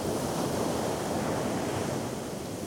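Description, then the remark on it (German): A steady, full wash of surf fills the whole stretch, sea waves rolling onto a shore at a constant roar, with no distinct break standing out and no voices present. “Das blaue Meer.”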